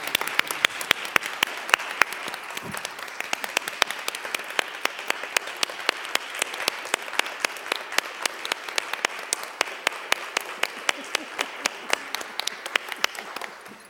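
A group at a city meeting applauds steadily for about fourteen seconds, the many overlapping hand claps forming a dense, crackling wash with sharp individual claps poking through, fading slightly at the end.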